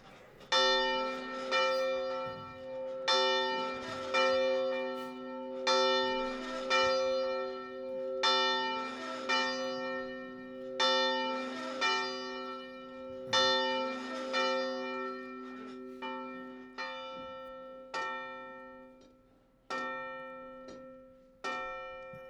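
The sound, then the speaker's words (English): A church bell peals repeatedly at a church before a morning service, in a steady, overlapping rhythm, each strike ringing out with rich, lingering harmonic tones before the next, loud and resonant, with no voices. “The bell's working and we are too, right?”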